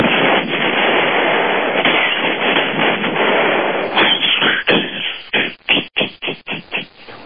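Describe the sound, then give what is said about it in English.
A voice imitates an explosion: a loud, sustained rushing roar of breathy noise that breaks into a series of short, choppy bursts before fading out, with no words spoken. “That was a decent explosion.”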